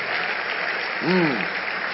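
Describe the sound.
A crowd claps for the life of Bishop Doug Hayward Mills, a steady, dense wash of applause for the whole stretch, with one voice briefly calling out over it partway through.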